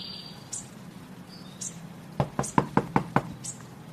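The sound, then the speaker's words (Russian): A quick series of about six sharp knocks on a front door by a person, a priest, in the morning with bright sunlight, evenly spaced, with faint chirps in the background before the knocking starts. “Стук в дверь раздался, когда в окна уже вовсю бил яркий солнечный свет.”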